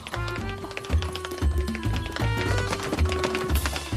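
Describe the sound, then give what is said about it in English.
Step dancing footsteps tap out a quick, steady rhythm of sharp, bright clicks over a bouncy musical accompaniment, the taps landing in loud, even bursts about twice a second. “That's some nifty footsteps there”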